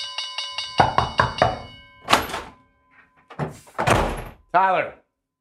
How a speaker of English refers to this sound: Let's ring in the bell.